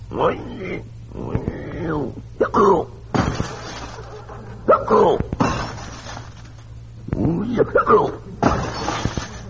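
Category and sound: sound effect, window glass shattering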